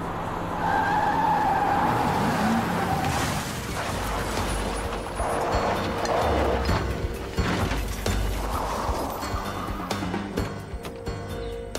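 A car driven by Knowles roars and its tires squeal in a loud skid, followed by metallic crunching and scraping as it rams into a police patrol car, all continuous with no voices.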